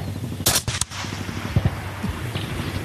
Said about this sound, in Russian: на одному з полігонів на Донеччині пристрілює нову напівавтоматичну снайперську гвинтівку українського виробництва UR-10. Досить легко з неї стріляти в порівнянні з СВД. Все-таки сучасна зброя.